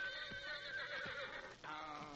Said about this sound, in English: As the first faint light of dawn broke over the eastern sky, the shrill whinnies of Dan Force Victor roused Lund from his sleep.